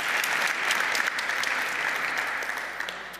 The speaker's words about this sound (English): Thank you very much. This is your applause. Thank you.